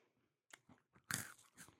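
Crisp crunching of seasoned pretzels being bitten and chewed, a few sharp brittle snaps building to a louder, grinding crunch in the middle, with no talking.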